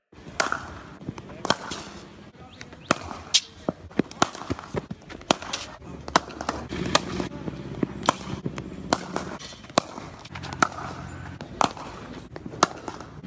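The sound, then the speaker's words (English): Sharp, woody cracks of leather cricket balls striking willow bats during practice in the nets ring out in a steady, irregular series, some loud and crisp, others softer, with a low murmur of voices in the background. “Well, cricket's most fundamental sound, really. Leather on willow, also, I suppose, known as the net, the staple for any batsmen and bowlers these days.”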